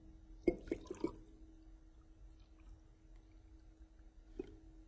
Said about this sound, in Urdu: تو اس لیزر کو میں اس گلاس کے تھرو یوں کرتا ہوں، اور اب میں اس لیزر کو پکڑ کے رکھوں گا، اس کو اپنی جگہ سے نہیں ہلاؤں گا، لیکن اس گلاس کے اندر میں پانی بھرتا چلا جاؤں گا.